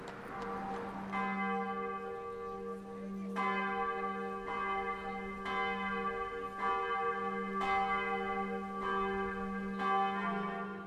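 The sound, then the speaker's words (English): Friary church bells in Killarney ring steadily at 7:45 in the morning, with repeated strikes roughly every second or two whose rich overtones overlap and hum on between hits. The ringing is clear, with no voices. “Then 7:45, I hear the Friary bells.”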